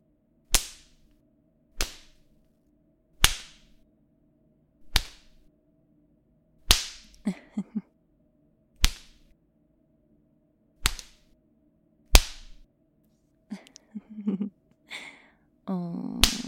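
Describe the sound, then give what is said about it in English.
Sharp leather slaps land against thighs through pants, about eight loud cracks spaced a second or two apart, followed by faint rustling and breathy movement near the end. “The leather slapping your thighs like that?”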